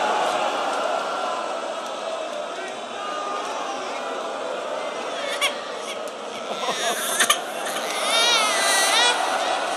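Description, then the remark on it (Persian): A baby cries amid a busy, murmuring crowd, the wailing rising more clearly near the end over steady background chatter and voices. “میخوای فقط با گریه بچه میخوای فقط گریه کنی؟”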